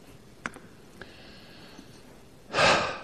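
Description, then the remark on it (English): A quiet stretch with a couple of faint clicks, then one deliberate, audible breath: a soft rush of air that swells and fades. “Who knew that just by breathing we proclaim the personal name of the God who alone is God?”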